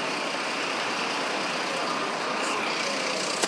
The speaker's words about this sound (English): I was on a very, very busy bus.